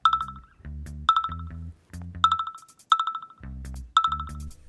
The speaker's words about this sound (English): Oh, look. So many notifications. Might as well check my Instagram feed.